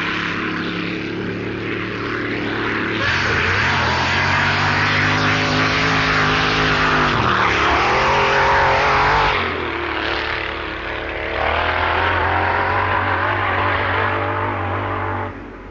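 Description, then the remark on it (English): A loud, roaring dragster engine on the car's first run in England runs continuously, revving with its pitch rising and dipping, including a brief drop midway before surging again, as water from the engine escapes onto the rear tire and the car snakes; no voices. “Tony Nancy's first run on English soil was marred by a severe snaking caused by water from the engine escaping onto the rear tire”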